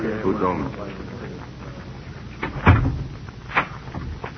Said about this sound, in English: Why lock the door? So we can be alone.